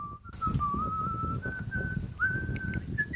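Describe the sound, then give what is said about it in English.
An AI-generated sound effect, made from the prompt "whistling with wind blowing": a person whistles a steady, wavering tune that slides gradually higher, with a constant low rumble of blowing wind underneath throughout. “This is whistling with wind blowing was the prompt.”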